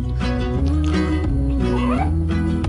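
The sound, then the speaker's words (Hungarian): A cat meows a few times in a Whiskas cat food advertisement, its drawn-out, rising cries sitting over a steady, loud musical backing with no one talking. “Mert ha a cica boldog, a gazdi is az.”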